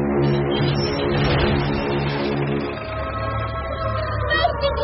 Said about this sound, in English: Don't panic, ladies and gentlemen. This is just another air raid warning. Will you please make your way down to the hotel basement in a slow and orderly fashion so that the staff can get down there first?